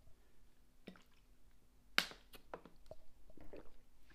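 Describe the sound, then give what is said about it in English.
Someone takes a quiet drink of water: soft wet mouth clicks and swallowing sounds, with one sharp click partway through, and no talking. “Sorry, I needed some water.”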